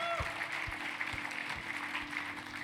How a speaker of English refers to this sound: Church, can we just clap for those people who are making that decision this morning?